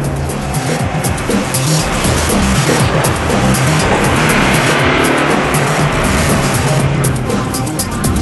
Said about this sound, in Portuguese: Seguimos em direção ao Vulcão Branco. Não tem estradas até lá. A areia é escorregadia e os carros atolam várias vezes.